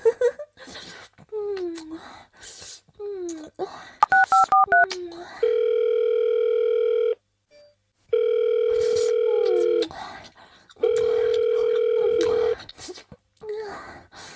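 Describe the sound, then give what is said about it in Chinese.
After soft wordless vocal sounds, a quick run of keypad beeps is followed by a steady telephone tone that sounds three times with short pauses, clear, as a call is being placed. “如果现在给他打电话，会更刺激吧？”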